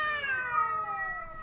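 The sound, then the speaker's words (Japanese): A single drawn-out meow from a stray cat at a vacant lot at night, a sustained wavering cry that slowly falls in pitch, clear with no talking. “特に空き地に面したアパートの3階に住んでいる30代半ばの女性は、猫の鳴き声に眠れない夜を過ごしていました。”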